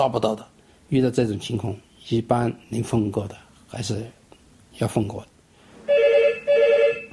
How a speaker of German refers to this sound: Dann klingelt das Telefon ein weiteres Mal. Nochmals die Rezeption.